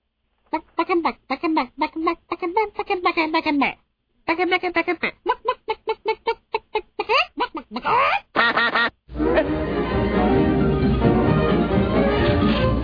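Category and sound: vocal imitation, person imitating duck quacking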